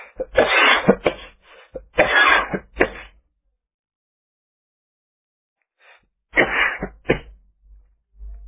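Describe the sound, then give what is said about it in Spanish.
A loud coughing fit: a rapid string of harsh, raspy coughs, a few seconds of silence, then another short burst of hacking coughs. “Me disculpo, pero no soy el primer tetán que al hacer un relato hago toser a este receptáculo que me alberga y que tan gentilmente está decodificando al lenguaje hablado mi concepto.”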